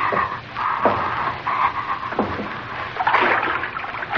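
Steady, sloshing footsteps wade through shallow, ankle-deep water, each step a soft splash repeating at a walking pace, continuous for the whole stretch with no voices.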